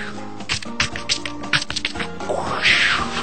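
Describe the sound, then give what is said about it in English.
A voice imitates ice chips and hail striking a windshield: a rapid, irregular string of sharp clicks and ticks, ending in a rising breathy hiss. “That's the sound I'm doing ice and ice chips and hail on your windshield.”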